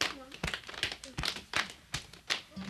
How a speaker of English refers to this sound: This time, count and slap your thighs and beat your chest. All right.